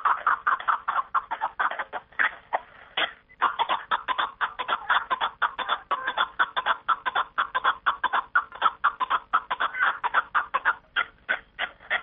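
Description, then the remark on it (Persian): A partridge in the mountains calls in a fast, steady run of harsh clucking notes, repeated over and over with barely a pause, loud and clear with no talking. “از این رو آنها می گویند زد کوهساران کبک است و خانش”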